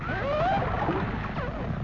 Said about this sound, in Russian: Один даже присвистывает. Явно заигрывают с нами. Это дельфины. Видно, не зря они все время подают голос. Наверное, зовут своих.